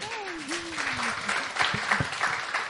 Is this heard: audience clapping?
yes